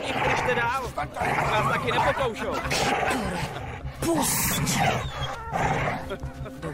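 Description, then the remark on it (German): Loud, continuous dog barking and whimpering, with rough growls and high whines tumbling over one another, mixed with human voices throughout. “Sie brillierte auch als mutige Hundebändigerin.”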